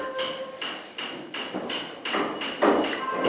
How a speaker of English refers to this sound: A few hundred yards to the west, a group of workmen are hammering away. This is a workshop run by a German aid agency, one of three NGOs operating in the village.